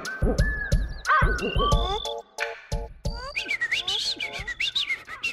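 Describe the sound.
A person, a professor at the Rockefeller University in New York City, whistles a quick, warbling run of rising and falling notes with chirpy, birdlike flourishes, loud and clear with short gaps between phrases.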